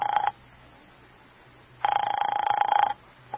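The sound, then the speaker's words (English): A telephone ringback tone heard through the line as someone phones a man: a short burst of ringing, a pause, then a longer ring lasting about a second, thin and band-limited like phone audio. “Doesn't he answer?”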